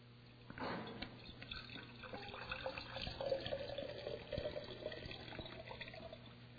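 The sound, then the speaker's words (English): Water streams steadily into a vessel for several seconds, a continuous splashing rush with a faintly rising tone as it fills. No one speaks. “This vessel has water in it.”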